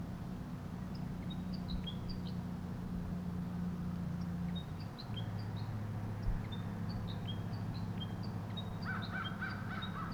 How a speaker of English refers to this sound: The wild bird above me continues to call or sing.